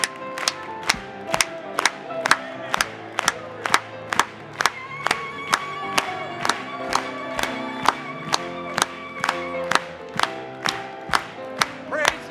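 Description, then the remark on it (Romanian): An audience claps together in a steady, even rhythm, sharp unison claps repeating about twice a second for the whole stretch, over a sustained bed of singing voices and music. “Hai să o aplaudăm încă o dată!”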